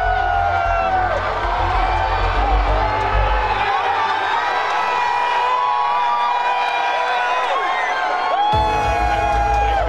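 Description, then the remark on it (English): A large crowd watching a solar eclipse cheers and whoops continuously for several seconds as day turns dark, a dense wash of shouting voices with high excited yells rising above it, loud and sustained throughout. “Oh, listen to the cheer.”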